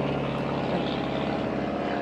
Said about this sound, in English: My helicopter's coming in, so we got to be quick here.